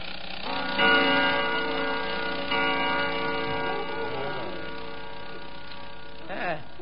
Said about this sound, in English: It was the grandfather clock striking 2.